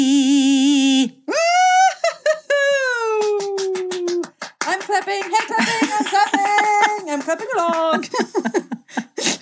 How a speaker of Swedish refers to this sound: I'm clapping along. Jag vågade ju inte klappa samtidigt. Yeah. Det var ett sånt otakt. Det hade våran klippare löst och taktat oss. Du tänker så. Satt oss i takt.